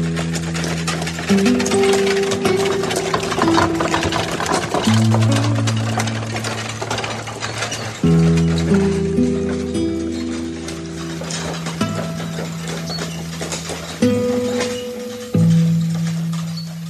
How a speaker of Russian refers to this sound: Сидевший рядом с ней мужчина встрепенулся, с размаха ударил вожжой по лошади. Та двинулась вперед с шибкой и крупной рысью, и телега скрылась.